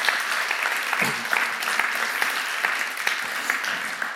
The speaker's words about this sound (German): Geben wir mal einen Applaus, ja.